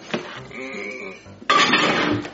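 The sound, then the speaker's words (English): A short nasal, bleat-like tone, then a sudden clatter and rattle as a dish of homemade cake mix (marshmallows, macaroni and cheese, syrup) is set down inside a microwave, fairly loud, with scraping continuing for about a second. “All right, now I gotta put it in the microwave.”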